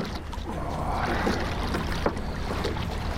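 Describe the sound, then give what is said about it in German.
Water sloshing and lapping against a narrow 8-metre, 20-kilogram racing rowing boat without a keel as it rocks side to side, a steady wash of splashing with faint wind noise and no speech. “Boot wackelt hin und her.”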